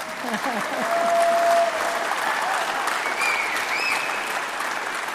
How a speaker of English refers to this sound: Thank you for your love of the museum. Give him another clap.